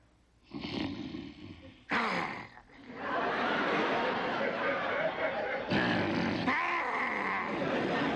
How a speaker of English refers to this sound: Now, we've learned I have a better growl, but you can back yours up.